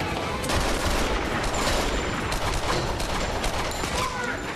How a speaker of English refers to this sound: Jack covers Tony as he runs the gamut of FBI gunfire and leaps over the parapet of the car park.